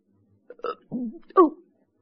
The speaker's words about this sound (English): Oh, excuse me. I haven't eaten all day. I had a tooth out. Hiccups come from not eating, don't they?